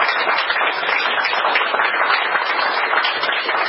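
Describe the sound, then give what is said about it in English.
An audience at a Mayo Day event at the New York Irish Centre claps steadily for the centre's team, a dense, sustained round of applause that holds at an even loudness throughout without any voices breaking through. “Without you, we wouldn't be here tonight, so I just want to give a round of applause.”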